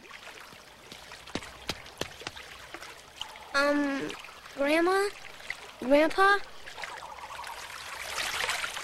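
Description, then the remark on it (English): Soft water trickling and lapping with faint splashes and a few sharp clicks as two animals drink water, then a young voice calls out twice and again, over the steady quiet flow. “grandparents are drinking water.”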